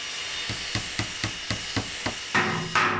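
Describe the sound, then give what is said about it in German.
A quick, steady run of about ten sharp hammer blows, roughly four per second, ending in a louder scraping clatter, as a rooster in a fairy tale builds a fine wagon with four red wheels. No voices. “Da baute das Hähnchen einen schönen Wagen, der 4 rote Räder hatte.”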